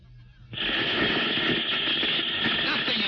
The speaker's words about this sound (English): Just a lot of electronic interference. I was afraid of that.